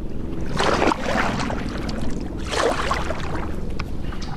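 A canoe paddled through river water among branches and woody snags: two swishing, splashy paddle strokes a couple of seconds apart, with a steady low watery rumble between them and no voices.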